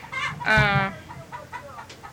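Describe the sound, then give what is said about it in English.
Chickens clucking, with one loud, drawn-out squawk early on followed by a series of shorter, softer clucks scattered across the rest of the moment. “We're going to be getting the chickens on the tape, too.”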